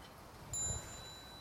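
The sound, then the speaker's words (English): A single strike of a small bell signalling children to bow and leave after practice, a high, thin ding that lingers and fades over about half a second, heard faintly against a quiet background with no voices. “You turn around to see our parents, and at the small sound of small bell, you bow and you go out.”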